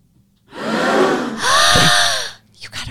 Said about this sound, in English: It was like a gasp. Gasp. Okay. Like, oh my gosh, you got it right.